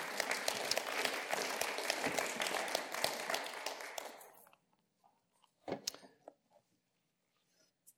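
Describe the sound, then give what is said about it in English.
An audience claps steadily for about four seconds for the musicians who had been playing and leading, the dense applause fading out, followed by a few scattered knocks and shuffling sounds in the quiet. “Yes, we can clap for them, too.”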